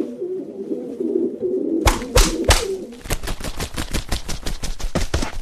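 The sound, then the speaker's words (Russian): A turtle dove set on a tree stump coos softly in low, throaty phrases for a couple of seconds, then loud sharp cracks cut in, turning into a fast rattling series of bursts. “Положил Федот горлицу на пенек и стал ждать.”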